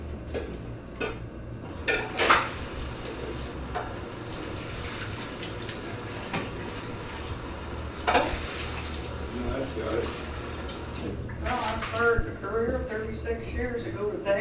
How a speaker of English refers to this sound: Washing dishes. Washing dishes. Washing, scrubbing, frigging, and what else?